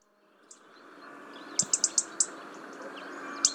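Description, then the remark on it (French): A European robin's alarm call from a recording by Fernand de Roussin: sharp, high ticks, five in a quick run mid-clip plus a single tick before and after, over a soft hissing background. “Je vais vous mettre le rouge-gorge de Fernand de Roussin.”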